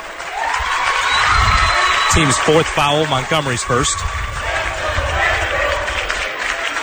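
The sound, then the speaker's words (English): A basketball arena crowd, heavy with Lake City supporters in a pretty full building, roars steadily throughout, a loud, dense wash of cheering and murmur, while an announcer speaks briefly over the noise near the middle. “Definitely a Lake City heavy crowd here.”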